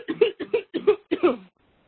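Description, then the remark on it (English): A quick run of about five harsh coughs from one person on a call, fairly loud, bunched within a second and a half before falling silent. “Sorry, everybody, I had a cough.”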